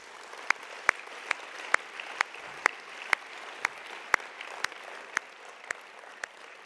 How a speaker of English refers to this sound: Could you give them a round of applause, please?